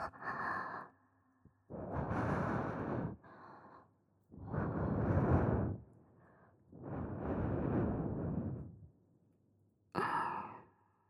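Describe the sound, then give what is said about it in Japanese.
Several long, soft breaths blown into the ear in slow succession, each a broad airy hiss swelling and fading, with brief quieter pauses between and a short final puff; no words spoken. “お耳から吐息を”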